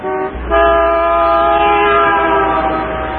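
A car horn blares in one long, loud, unbroken honk, holding a steady brassy tone for about three seconds with no voices over it.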